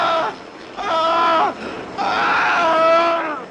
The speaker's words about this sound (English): Here's the death scream we like so much.